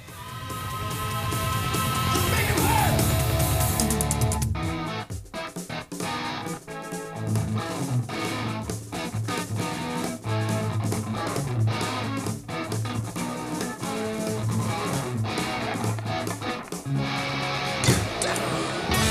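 A loud electric guitar solo from a rock song, opening with a dense, sustained wash of sound before settling into busy lead lines over a steady, driving band.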